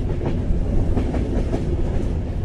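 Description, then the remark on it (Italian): An Intercity train to Berlin rolls steadily along the rails through a city's northern outskirts into the countryside, a dense low rumble with faint rhythmic clicks of wheels over track joints, continuous throughout with no voices. “Sul treno per Berlino torno a leggere Caverne di Clemens Meyer. Mentre l'Intercity si infila nella periferia nord della città”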